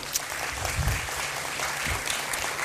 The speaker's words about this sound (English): Number one, I just want to give a huge shout out to all the people that have been involved in helping with Good Friday and Easter Sunday. It's been a lot of work behind the scenes, and I just want us to give them a round of applause and thanks.